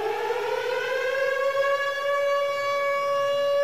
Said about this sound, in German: Dann gibt es den Feuerwehrton, den kennt wahrscheinlich jeder.